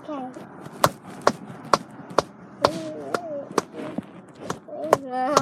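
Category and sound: human body sound, hand clapping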